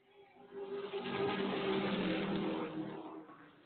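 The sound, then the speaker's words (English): Roaring race car engines sweep past in a sustained, loud wave of motor noise that swells and fades as the cars race around a track on lap one, Mel Wilt leading in the outside groove with Casey Fiegel's number 13 car pushing from behind, with no voices. “Looks like he's got the number 13 car of Casey Fiegel pushing him from behind in that outside groove.”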